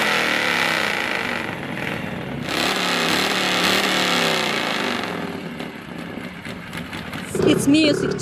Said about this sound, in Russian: Мощный рокот моторов, конечно, по душе не всем. Однако поклонники Харлеев с этим звуком давно сроднились.